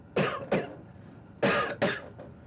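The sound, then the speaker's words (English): A person imitates a cough with two quick double bursts, a pair of sharp, raspy coughs, a brief pause, then another pair, fairly loud with no talking. “I had a cold that day, and I started coughing like this, you know.”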